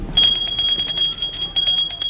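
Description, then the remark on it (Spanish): A small hand bell, rung by an elderly woman in bed, rings rapidly and continuously, its bright high tone shaken in quick repeated strokes, fairly loud, with no voices. “Después se sientan junto a la anciana que toca la campanilla.”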